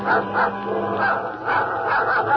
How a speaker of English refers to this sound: Suddenly, she hears Bobo's dog growling.